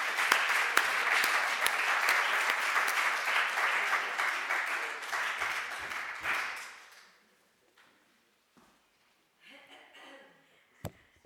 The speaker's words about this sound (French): Je vous propose de l'applaudir parce qu'elle a fait un super job.